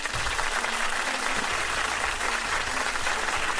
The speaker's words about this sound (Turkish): alkış geldi, yaşasın mutlu yüz dedik